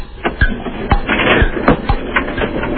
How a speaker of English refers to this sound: Put a sneaker and shoe in the dryer. Run it, yeah. Let us hear it tumble.